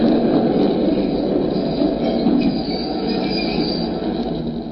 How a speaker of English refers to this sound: The last train was just pulling in.